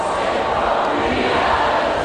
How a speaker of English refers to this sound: Listen to this. That's the crowd. Beautiful.